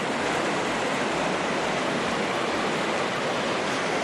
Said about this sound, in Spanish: Bueno, pues es el sonido del agua que sale en el centro de Gijón, donde ha habido una fuga de madrugada 11 operarios de la empresa municipal de aguas, 11 operarios de la EMA trabajan desde hace horas para subsanar la avería